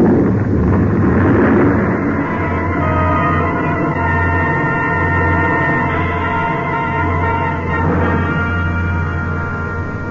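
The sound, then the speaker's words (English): A loud, continuous roar of an avalanche of snow and ice, loosened from the ridge above by shots, rumbling down toward the valley, deep and thunderous, sustained at full force for about ten seconds with no voices. “It must have been the shots that loosened the snow and ice on the ridge above. I heard the sound, and I ran.”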